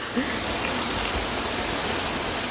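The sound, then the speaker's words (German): A rushing waterfall near Anhausen, Germany, roars steadily and loud, a dense, unbroken wash of water noise filling the whole clip without pause. “Wasserfall bei Anhausen.”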